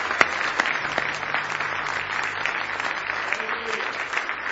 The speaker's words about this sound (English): Somebody say praise the Lord. Give Jesus one more hand clap of praise tonight.